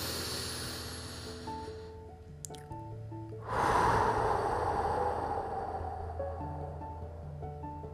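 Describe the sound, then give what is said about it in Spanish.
A long, deep breath drawn in and then released in a loud, airy exhale during a guided stretching and breathing exercise, over soft steady background music. “Tomemos una larga y fuerte respiración profunda.”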